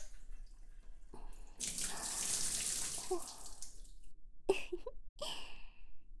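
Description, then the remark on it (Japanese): Water runs for a couple of seconds, splashing as soap foam is rinsed off the tip of something, then tapers into a few drips and small wet taps. No one speaks. “先っぽの泡を落としてと、よいしょ、よいしょ。”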